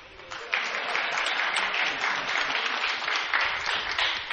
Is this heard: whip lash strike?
no